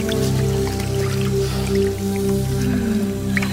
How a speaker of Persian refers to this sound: یه تیکه از لباسش رو پاره میکنه، میبنده دور شکمش. دستای خونیش رو میشوره،